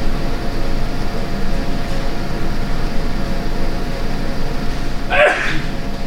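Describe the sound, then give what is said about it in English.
A single quick, sharp sneeze bursts out near the end, over a constant low rumbling hum that fills the whole recording. No one speaks. “Bless you”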